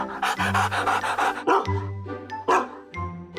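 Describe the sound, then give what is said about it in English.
A rescue dog named Cheese pants rapidly and steadily, its quick breathy huffs coming in a continuous rhythm for a few seconds, with a low steady hum underneath. “He's our dog, Cheese.”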